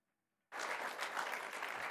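After a brief near-silence, a crowd bursts into sustained applause for a young man before a closing prayer, a dense, steady wash of many hands clapping at an even loudness through the rest of the moment.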